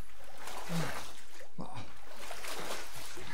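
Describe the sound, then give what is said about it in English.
A fox jumps into cold water with a splash, followed by steady churning and trickling, fairly loud, with faint vocal sounds briefly rising in the background. “The fox jumps into the cold water.”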